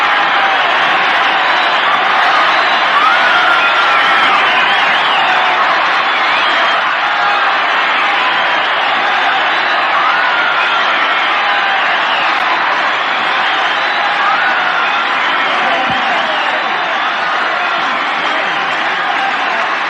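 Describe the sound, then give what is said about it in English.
A huge crowd, reckoned at 650,000 people and very hot, roars and cheers in a steady, dense wall of voices, loud and unbroken the whole time, with no single speaker standing out. “No, it's a very nice crowd.”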